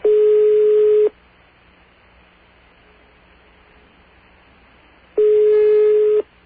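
A telephone line in Alma-Ata, Kazakhstan, then part of the Soviet Union, rings in the caller's ear: two steady, buzzy one-second tones at a single mid pitch, separated by about four seconds of faint line hiss, with no voices.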